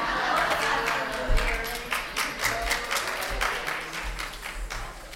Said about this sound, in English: I always like when they do a great song and you guys clap. Makes it seem like you're clapping for me coming up this preach.